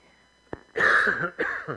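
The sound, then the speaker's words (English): A short sharp cough, then a raspy, rough throat clearing that rumbles for about half a second, followed by a shorter second clearing, from a person with a frog in their throat in the morning. No speech, just the harsh, breathy bursts. “Excuse me. I have a little frog in my throat this morning, so.”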